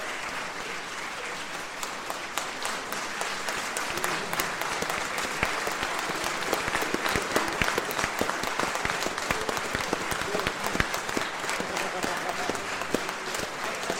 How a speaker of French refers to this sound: tu te retournes pour que tout le monde puisse se lever et t'applaudir et applaudir tout l'ensemble, les chœurs et les musiciens.